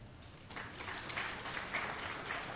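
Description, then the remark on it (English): An audience breaks into steady applause to show agreement with a statement it has been asked to judge true or false, a dense, even patter of many hands clapping at once for a couple of seconds, moderately loud with no voices over it. “If you agree with that, applaud.”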